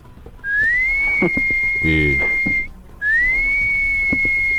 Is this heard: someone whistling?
yes